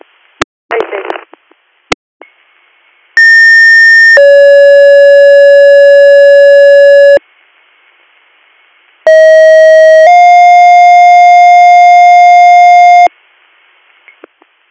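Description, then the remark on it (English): Dispatch paging alert tones play twice in sequence, each a brief steady tone stepping into a longer held tone, loud and clean, after a few radio clicks and a short static burst. “Stand by for tones.”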